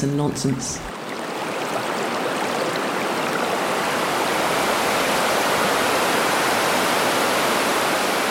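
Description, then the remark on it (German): A brief voice at the very start gives way to loud, steady rushing water, a continuous roar of flowing, splashing, gurgling water like a stream or small waterfall that fills the rest. “Plätschern, Glucksen, Tosen.”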